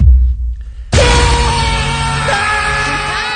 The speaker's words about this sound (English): Why are we all screaming? We're scared.